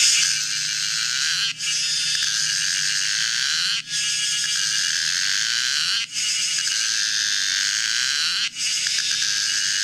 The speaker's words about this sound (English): This is the biggest cicada in the world. It's the Empress cicada from Southeast Asia. It's Pomponia imperatoria. Let's listen to this clip. It sounds like someone screaming to death.